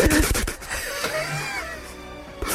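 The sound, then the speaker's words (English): A voice mimics post-crying sobs: a quick run of sharp, breathy gasps, then a shaky, wavering whimper that trails off before one last catch of breath, fairly loud. “Once you've stopped gasping for air. Once you've stopped doing these ones.”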